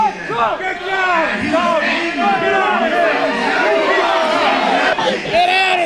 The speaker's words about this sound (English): The crowd's boos were followed by chants of USA, USA.